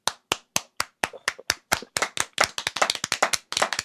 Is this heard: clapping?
yes